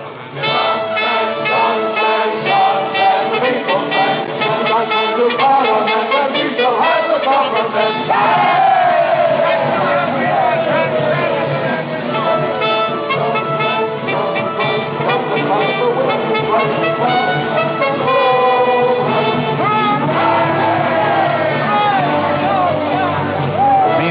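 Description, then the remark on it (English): A loud, continuous roar of a cheering, shouting election-day crowd on the march with bands playing through it as parliamentary votes are counted, sustained without a break, with a thin, muffled, old-recording quality. “As the outcome hangs in the balance, the bands still play and the crowds are on the march.”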